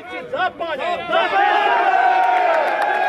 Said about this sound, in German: Auch der Angreifer auf den Bus ist anwesend und wird mit Applaus empfangen.